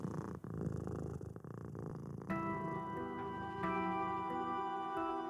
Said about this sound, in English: As she dozed off, she thought she heard a familiar purring sound deep in the recesses of the attic.